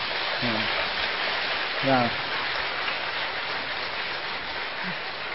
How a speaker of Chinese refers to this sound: 我们将荣耀归给神，我们一起来鼓掌，来将荣耀归给神。